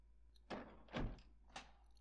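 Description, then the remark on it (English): A heavy temple door is worked with three dull, effortful thuds and scrapes about half a second apart, fairly loud, with no one speaking. “The doors in the temple are so heavy. Would you be a dear and help me out?”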